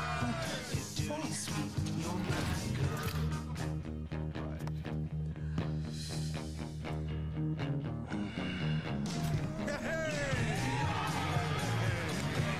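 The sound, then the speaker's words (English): In a commercial for Bavarian Beer, neighbors in a front yard, beers in hand, cheer, yell and whoop for a man home from rehab, continuously over steady music, the loud mix of voices staying dense from start to finish with occasional sharp bursts. “And he gets home from rehab, and all of his neighbors are in the front yard, and they're cheering him on with a beer in their hand.”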